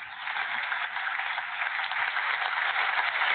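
applause

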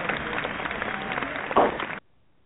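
audience clapping

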